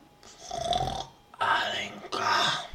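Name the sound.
fart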